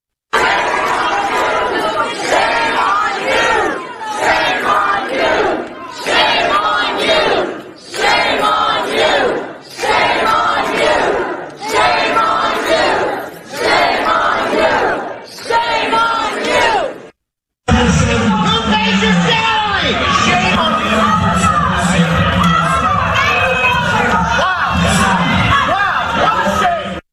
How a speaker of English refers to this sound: Now, let's go to the Loudoun County and listen to parents very emotionally yelling at school board members.